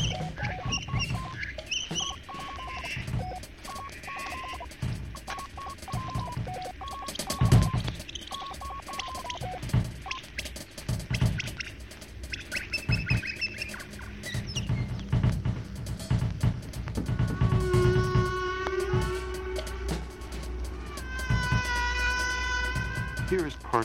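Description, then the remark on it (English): Whale song from a single whale, sped up fourteen times, turned into a busy stream of squeaky chirps, whistles and rising harmonic sweeps, fairly loud and continuous over low rumbling thumps; the whale makes both the high squeaky tones and the low rumbling. “Speed them up to birdsong speeds. This song is sped up 14 times.”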